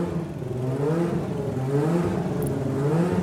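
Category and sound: vehicle, engine revving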